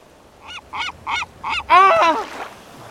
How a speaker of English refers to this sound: Hello there, Mr. Seagull. Hey, leave that alone. That's my Geiger counter, not your fish supper.